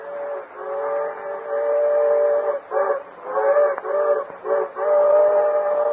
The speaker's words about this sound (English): The Lone Ranger heard the engine's whistle in the distance